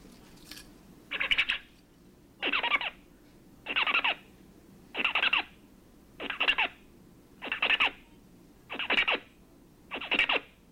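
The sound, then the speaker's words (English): Zebra finch song: eight short, buzzy, high-pitched motifs repeat at a steady pace, each about half a second long, with brief gaps between them and no talking. “So the first sequence, the first one is the zebrafinch, and then the model during training.”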